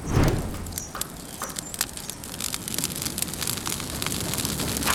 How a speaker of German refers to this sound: Das ist mal ein schönes Feuerchen.